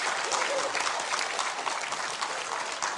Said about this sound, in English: Well done. Give her a clap.